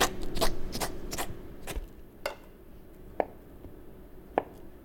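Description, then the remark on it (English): A knife slices canned Spam into three slices on a cutting board for frying, a quick run of sharp chopping taps followed by a few slower, isolated cuts, moderately loud with no talking. “Just slice it up into 3 little slices so we can fry them up and test them.”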